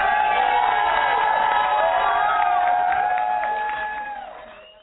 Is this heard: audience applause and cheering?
yes